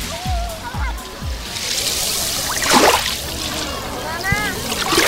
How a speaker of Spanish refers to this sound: Este es el sonido fantástico que tiene el mar Mediterráneo desde la playa de la Charca, que hoy está como un plato.